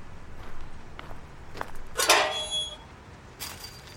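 An old, unlocked, rusted metal fence door creaks open with a short, harsh squeal, surrounded by a few scuffing footsteps and faint clanks, moderately loud, with no voices.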